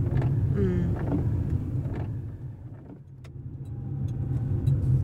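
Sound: car driving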